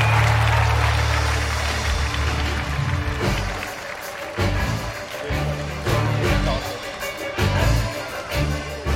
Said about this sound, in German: Und nun, meine Damen und Herren, liebe Kinder, ist es soweit. Erleben Sie unser neues Programm Euphorie. Und seien Sie euphorisch. Applaus für unser Zirkusorchester.